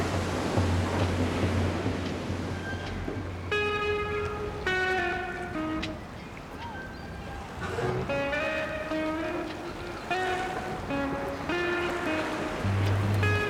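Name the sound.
sea waves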